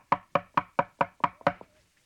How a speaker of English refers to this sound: a taxi drove up in front of my house, and suppose somebody knocked on the door?